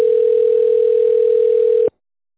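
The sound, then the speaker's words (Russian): A telephone ringback tone while a call is being connected and transferred to a secretary: one steady, mid-pitched beep held for nearly two seconds, loud and clear with no voices, then cutting off abruptly into silence. “Подождите, идет соединение.”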